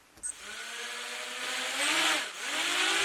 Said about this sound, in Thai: อากาศยานไร้คนขับหรือโดรนบินร่อนไปทั่วห้องประชุมภายในมหาวิทยาลัยวอชิงตันที่นครซีแอตเทิลรัฐวอชิงตันเพื่อเป็นส่วนหนึ่งของการเรียนการสอนในห้องปฏิบัติการระบบอากาศยานอิสระ